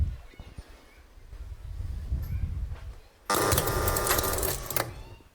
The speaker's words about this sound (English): So you see a full turn of the engine, and if you watch carefully, I'll show it again, you will see that the relays are released. This one moment. You see them all going up. All the contacts are released.